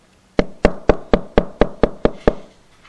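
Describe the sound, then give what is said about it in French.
A quick, steady run of nine firm knocks on a door, evenly spaced, each one sharp with a short wooden ring. No voices, just the rapping. “Satan, il arrive comme ça, il frappe.”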